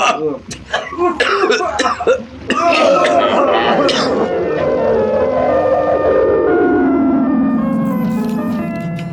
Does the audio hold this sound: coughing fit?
yes